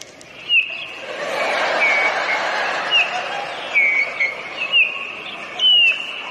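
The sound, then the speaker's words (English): Several short, bright bird chirps and whistled calls ring out at intervals over a steady hiss of outdoor background noise, moderately loud, with no talking. “Listen to the birds.”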